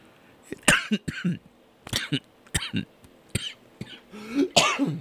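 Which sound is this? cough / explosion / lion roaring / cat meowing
cough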